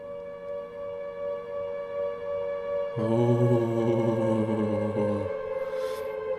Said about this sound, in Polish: Jest syrena z Silent Hill'a.